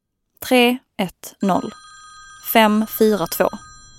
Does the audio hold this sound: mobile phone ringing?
yes